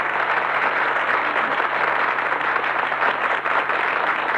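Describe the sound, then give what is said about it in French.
Steady, dense applause from a large audience for a contestant in a singing competition, a continuous wash of clapping hands that stays loud and even throughout with no voices above it. “Alors, vos applaudissements maintenant pour le Rossignol de nos amours.”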